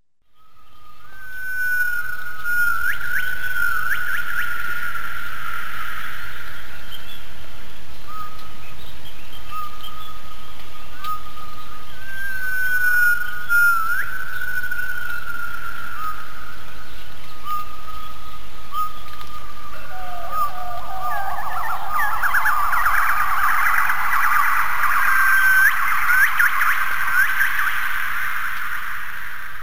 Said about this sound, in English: What you're hearing there is extremely, extremely rare animal called the Calvert gibbon. There are only 70 of these animals left in the world in one tiny patch of jungle.